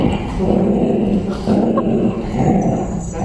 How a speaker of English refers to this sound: That's an awfully big dog